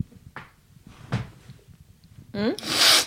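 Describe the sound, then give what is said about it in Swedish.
A few faint soft knocks, then a short voiced sound followed by a loud, harsh, breathy burst of someone blowing their nose that fills the final half second. “Jag tycker om att titta dig djupt i dina ögon och snyta mig.”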